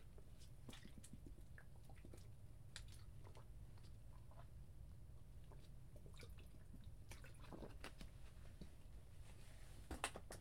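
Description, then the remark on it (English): Someone drinks water: a run of small wet clicks, sips and swallowing sounds scattered over a steady low rumble, with no talking. “Let me get some water.”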